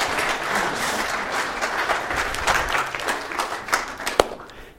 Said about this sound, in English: Yahoo! Yeah! Round of applause for Jesus!